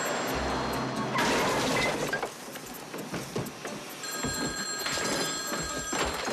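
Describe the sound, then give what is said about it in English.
A station wagon crashes into a planter in a yard with a loud, scraping smash and scattered debris clatter, followed by a telephone ringing in steady bursts near the end. “He smashes into a planter in his yard.”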